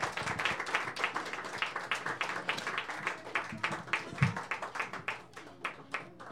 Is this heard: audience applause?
yes